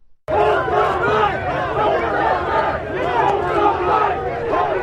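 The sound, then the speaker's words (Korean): A large crowd of counter-protesters in Washington chants anti-racism slogans in unison, many voices shouting together in a steady, loud rhythm that continues without a break after a brief quiet start, opposing a small rally of racists. “네, 이날 맞불 시위에 참여한 사람들이 외치는 구호 소리 잠시 들으셨는데요.”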